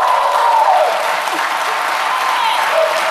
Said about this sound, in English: For those in the podcast, it's some non-Asians clapping too.